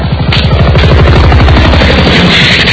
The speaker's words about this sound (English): They've got helicopters going right over the top of them.